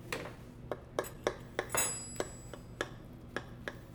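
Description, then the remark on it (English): A knife saws through a crusty brown loaf of home-baked bread, giving a steady series of sharp, crackly crunches about every half second, with a brief thin metallic ring partway through. No one speaks. “It's got a little bit of that good squish. A little squish, and you can still hear like a little bit of crunch.”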